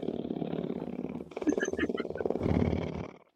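A big cat purring, a deep continuous rumble that pulses steadily and swells louder toward the end before cutting off, with a brief higher vocal sound partway through.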